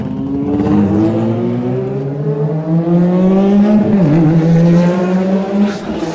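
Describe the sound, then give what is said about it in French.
A burning car's engine roars, its pitch climbing steadily as the vehicle arrives, with a brief wobble midway before the loud, continuous drone carries on. No voices. “Arrivée d'une voiture en feu.”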